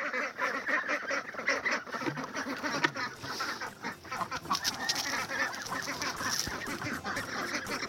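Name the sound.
hungry ducks quacking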